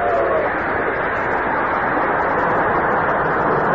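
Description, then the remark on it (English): The 516 train rounds the bend at Dandridge, where the old station house had been, and roars past at undiminished speed. A steady, dense rushing rumble holds an even loudness throughout, with no voices over it. “As Mary watched the train”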